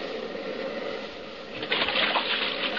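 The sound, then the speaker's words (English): Steady rushing and splashing water as a small boat drives through the shallows and runs up onto an island beach, swelling louder as it lands. No one speaks. “Hold on, we're going to hit the beach.”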